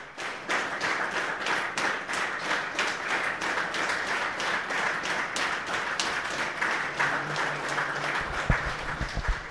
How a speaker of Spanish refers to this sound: Démosles un minuto de aplausos.